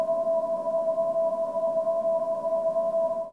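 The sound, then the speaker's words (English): A Chevy Volt electric car's pedestrian warning sound: a steady, synthetic, space-like hum of layered mid-pitched tones, with faint regular pulses, holding even for about three seconds before cutting off. “The Chevy Volt is kind of space-like.”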